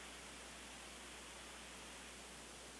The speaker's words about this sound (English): And it's starting to rain again here at River Valley. The umbrella's coming up. Steady shower right now.